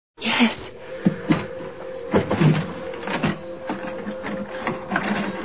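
A drawer is pulled open with a run of rattling clicks and knocks, uneven and moderately loud, over a faint steady hum; no one speaks.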